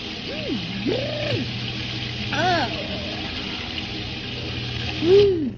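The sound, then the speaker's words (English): Cold shower water runs in a steady hiss throughout, while a voice lets out several short rising-and-falling yelps over the spray, the last one louder. “Now, take a nice cold shower and hurry.”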